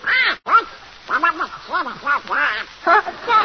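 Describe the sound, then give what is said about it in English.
A raspy, nasal cartoon-duck voice quacks and sputters in a rapid, uneven string of squawks, loud and close, with no other voices. It is a human voice imitating a duck. “What's that noise, Mickey? Oh, that's Donald Duck.”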